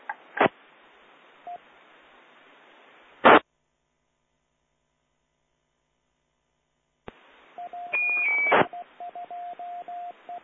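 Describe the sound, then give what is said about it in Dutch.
Short electronic beeps and tonal blips from amateur radio station PE1AQB ride over a hissing amateur radio channel during a net round, with noisy squelch bursts cutting in and out and a stretch of dead silence in the middle. “Ja, wie was die pieper?”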